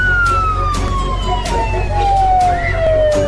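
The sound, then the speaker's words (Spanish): A loud police car siren wails continuously, its pitch sliding steadily downward across the whole stretch, over a low rumbling engine and road noise. “Vamos a buscar a vuestra amiga en mi coche.”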